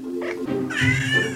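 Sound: cat meowing loudly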